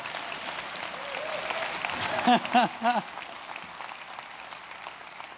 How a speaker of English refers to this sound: Give them one more round of applause. Come on.